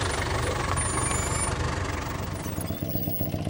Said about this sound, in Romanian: Tată, de ce ai oprit mașina?